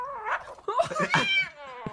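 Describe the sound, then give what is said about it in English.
A kitten growls over a piece of steak it will not release while someone tries to take it away: a low, wavering, drawn-out grumble that rises into whiny yowls, fairly loud, running almost continuously for a couple of seconds with no one talking. “The kitten that will not release the piece of steak.”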